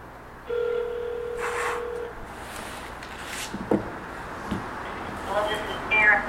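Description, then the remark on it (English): A phone call being placed during a meeting to bring a participant on the line: a steady dial tone hums for a couple of seconds, followed by a few clicks and then a buzzy, warbling ring tone near the end. “Okay, and I'll put Karen Tynan on the phone.”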